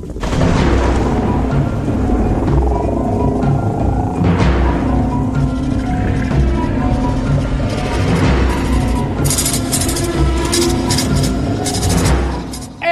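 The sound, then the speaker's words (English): A loud storm sound effect with deep, continuous thunder rumbling, swelling into sharper crackling bursts near the end, with no voices over it. “Back for the storm.”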